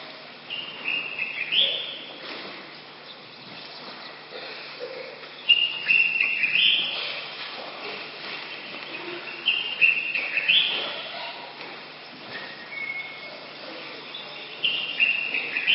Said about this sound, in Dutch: Maar dit was het geluid van 's morgens vroeg. Vogelgeluiden.